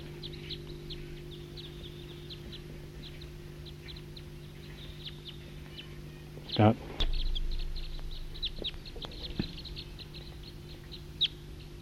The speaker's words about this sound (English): Wild bird. Wild. Wild.